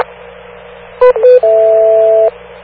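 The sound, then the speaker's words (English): Three electronic beep tones over steady radio hiss: a short high blip, a slightly longer lower tone, then a long held tone, with a faint hum underneath and no talking. “Make sure you wait for the three beeps before you pick up”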